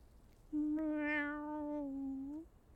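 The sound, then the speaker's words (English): A single long, drawn-out meow, sustained for about two seconds at a steady pitch with a slight upward lilt at the end, clear against quiet, voiced by a person imitating a cat. “Meow.”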